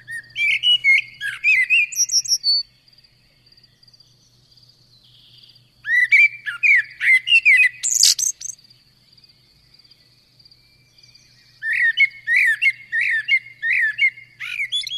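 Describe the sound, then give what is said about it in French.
A common blackbird sings fluted, whistling phrases in three bursts separated by pauses, clear, with a faint steady insect-like trill running beneath and a low hum throughout. “Aura reconnu le merle. Ouais, un chant très flûté du merle noir qu'on entend au printemps et qui, justement, annonce le printemps et qui fait toujours chaud au cœur”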